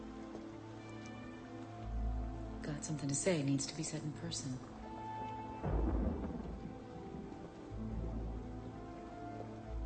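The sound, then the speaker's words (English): Steady rain hisses under a conversation while low rolls of thunder rumble in twice, the heavier one swelling midway. People talk throughout over the storm. “Drove. In the storm?”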